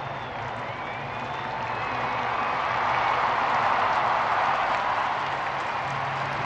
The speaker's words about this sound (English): Dozens of national flags were visible in the packed square, and a deafening cheer went up when at last Pope Francis appeared.